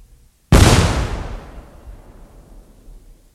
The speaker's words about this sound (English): Now let's try the cannon once more.